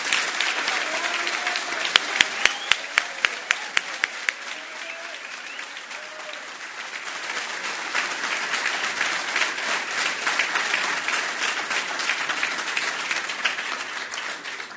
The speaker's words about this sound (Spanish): y le dar la palabra al profesor Alejandro Pereda, secretario nacional del deporte, a quien recibimos con un fuerte aplauso, ¿verdad?